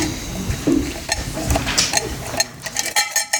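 A homemade shaker made from a drink can with balls inside, played as a pupil's instrument for the class radio of the Croppettes school in Geneva, rattles continuously, a dense, irregular metallic clatter of small impacts, moderately loud, with no voices.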